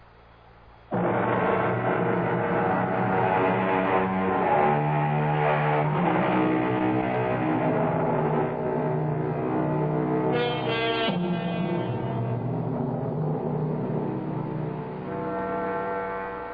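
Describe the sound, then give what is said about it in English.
After a brief quiet moment, a Fifth Avenue city bus heading to 47th Street rumbles in loud, its engine a steady droning hum that shifts pitch now and then as if changing gears amid street traffic, with no talking. “At 11:30 the next morning, Mrs. Ruth Moody left her apartment and took a Fifth Avenue bus to 47th Street.”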